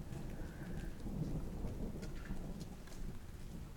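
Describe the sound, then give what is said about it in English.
Steady rain hisses and patters continuously on a cold day while a deep, rolling rumble of thunder sustains underneath, a dense low roar throughout with no voices present. “It's raining, it's cold, and it's the weekend.”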